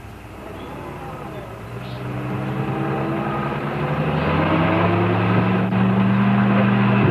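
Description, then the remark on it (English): A truck carrying Lassie and Mr. Miller, its engine droning with a low, steady hum that grows gradually louder as it approaches, its rumbling tones holding through the whole stretch with no one speaking. “It's the truck.”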